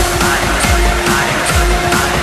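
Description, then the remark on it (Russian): A loud car engine revs over and over, its low growl swooping up and down in quick repeated bursts against a steady mechanical hum, with no one talking. “И пробуждение в моторах”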